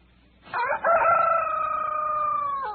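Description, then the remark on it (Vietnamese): A rooster crows once, loud, a long drawn-out cock-a-doodle-doo that holds steady for about two seconds before trailing off, with no voices around it. “Gà mới gái hiệp một, anh Sáu đã bật ngồi dậy.”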